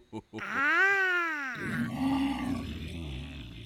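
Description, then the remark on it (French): A person imitates a tiger's roar: a loud, rising-and-falling vocal roar about a second long, then a low rough growl that trails off. “T'es qui, toi? Je suis le tigre.”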